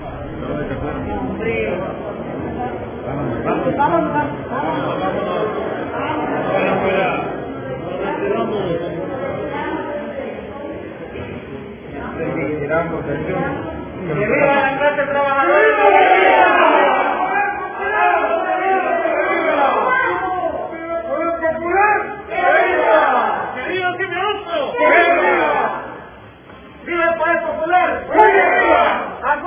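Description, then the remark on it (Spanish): A crowd of Cimeduco union members shouts angrily as they leave an electoral event, a continuous, overlapping din of raised voices, with louder bursts of yelling and jeering building in the second half before briefly dipping and surging again. “Escuchemos el momento en que se retiran y gritan y están bien molestos.”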